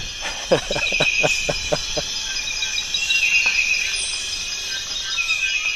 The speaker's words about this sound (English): Meanwhile, there are all these insects and birds and everything else.